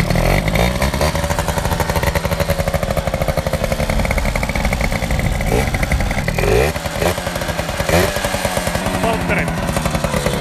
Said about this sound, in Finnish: mikä tää juttu on, että kun mopo on paikalla, niin miksi kierroksia pitää nostaa? Kone lämpee nopeammin, niin sit tuo, se estää enemmän leikkaamista.